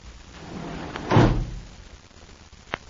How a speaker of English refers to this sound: Lester Jordan watches Claudia Vincent disappear behind the elevator doors.